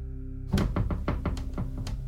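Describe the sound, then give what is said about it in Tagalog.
A rapid run of heavy, hollow thumps as an old wardrobe door is pushed from inside and rattled against its lock, starting abruptly and repeating about eight times, loud with no voices. “Hanggang sa nakita ko nang gumalaw ang pinto ng aparador. May tumutulak mula sa loob. Gustong lumabas, pero di pumapayag ang kandado.”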